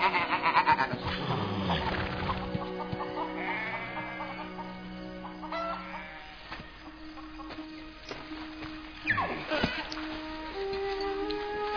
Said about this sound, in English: And that old goat there is an old goat.